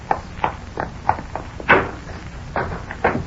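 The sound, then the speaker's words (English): A hotel's screen door is pushed open with a rattling clack amid a series of steady footsteps walking up to the reception desk, one louder knock standing out midway. “I pushed open the screen door of the hotel and walked up to the reception desk.”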